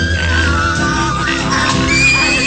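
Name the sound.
horse neighing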